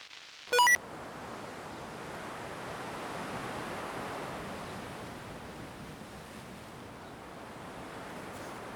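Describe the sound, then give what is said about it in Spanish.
Rough sea surf roars steadily on Penoural beach in the wind, a broad continuous wash of breaking waves that swells and eases slightly, with a brief sharp tonal blip near the start. “Asómate para ver la playa y el mar bravo. Deja que te dé el viento en la cara.”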